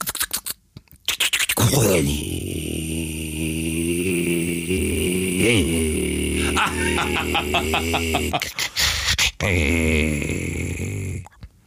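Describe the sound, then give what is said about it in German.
A flat-six boxer engine runs loud, its deep throbbing drone rising and falling as the throttle is blipped in a few short revs before settling back to idle. “Drei Sechser Boxer.”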